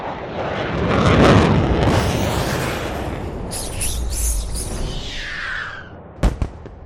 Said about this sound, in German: Die Luft-Luft-Rakete explodierte in einer blau glitzernden Wolke.